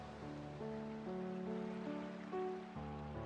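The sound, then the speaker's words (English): A steady wash of flowing water runs throughout, blended with soft sustained musical tones that shift chords every second or so; no one speaks. “Now begin to come back and find yourself in your room again, or outside watching the water.”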